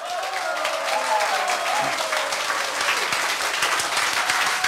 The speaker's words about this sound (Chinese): 各位有没有达到 ABP 的效果？有还是没有？掌声鼓励一下。